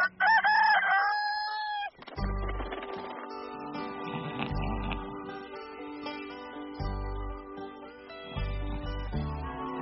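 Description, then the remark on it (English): A single loud rooster crow rings out for about two seconds, then upbeat music with a heavy bass beat kicks in and plays to the end. “Now, remember, we get started first thing in the morning. Cock-a-doodle-doo.”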